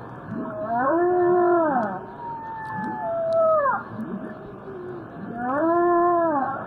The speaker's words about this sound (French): Ah, et ça ressemble à quoi ces bruits? C'est plusieurs vocalisations répétées en boucle. Je peux d'ailleurs vous faire écouter le chant d'une baleine que j'étudie souvent.